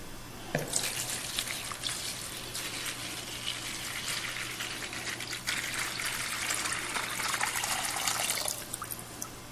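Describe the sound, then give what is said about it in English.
Water pours steadily for several seconds, a continuous splashing, gurgling stream that builds slightly toward the end, with a faint low hum underneath and no voices. “The word picture is pouring out.”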